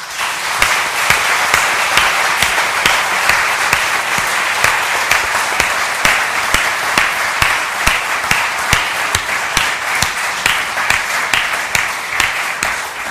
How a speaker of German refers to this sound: Und ich finde, das machen wir jetzt mal alle zusammen euch deutlich, indem ihr mal einen richtig fetten Applaus kriegt.